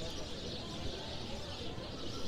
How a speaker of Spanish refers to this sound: Pajaritos suenan. Sí, claro. ¿Son reales? Sí, esos sí son reales. Allá arriba.